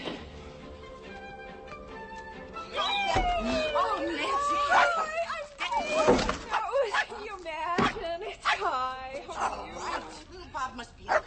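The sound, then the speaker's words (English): A crowd of neighborhood dogs barks and yelps at once, overlapping calls piling up loudly after a quieter opening, with a few sharp thumps mixed into the racket. “Every dog in the neighborhood is out here.”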